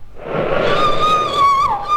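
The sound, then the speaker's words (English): A woman's long, high-pitched scream swells in over a steady rushing background of a night gale with howling wind and beating rain, around 3 o'clock, holding a shrill wavering tone for about two seconds before dipping briefly and rising again. “Oh, was that you who screamed?”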